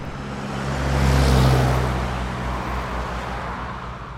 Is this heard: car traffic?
yes